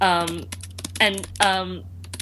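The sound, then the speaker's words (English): Fast, uneven, furious clacking of computer keys as a person types out a book title, bursts of typing running throughout, with a person's voice sounding in short stretches over it. “I can hear you furiously typing.”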